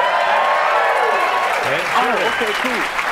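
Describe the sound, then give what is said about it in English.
Steady, dense applause from a live audience of real people on the show Wait Wait Don't Tell Me, with a voice beginning to speak over the clapping partway through. “Are those real people clapping? They are. They're real people.”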